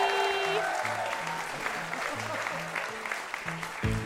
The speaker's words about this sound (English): Jeez, they are clapping like that's a fake ending.